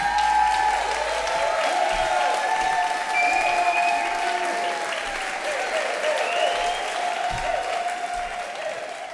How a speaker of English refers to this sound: How about an enormous round of applause for our next storyteller